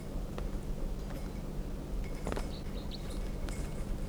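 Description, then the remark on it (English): A wild bird calls faintly from down the hill, a few short high chirps in the second half, over a steady low outdoor rumble with occasional soft clicks and rustles. “There's a wild bird down the hill.”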